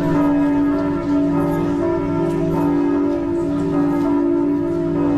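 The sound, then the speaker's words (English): Church bells of a small village ring continuously, their overlapping tones blending into a rich, sustained peal at steady volume, with fresh strikes layering over the lingering hum. No voices are heard. “When I used to live in Germany, the sound of church bells in a little village just does something to me.”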